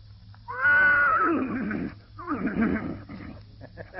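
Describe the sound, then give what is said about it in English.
During a rehearsal, a voice imitates a horse neighing in two long, loud bursts, starting with a high, quavering whinny and falling into rough, sputtering snorts, followed by a short pause. “Well, let's start with the horse.”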